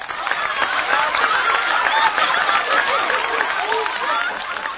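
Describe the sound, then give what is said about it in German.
Loud, sustained applause from a large crowd for the lion mayor, who sits before the magician Zerfetti begging with his paws, fills the whole stretch, a dense steady roar of clapping with voices and cheers mixed in. “Na, nun hat er seinen tosenden Beifall, unser Löwenbürgermeister.”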